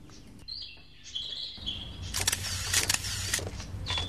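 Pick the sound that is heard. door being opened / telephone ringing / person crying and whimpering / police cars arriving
police cars arriving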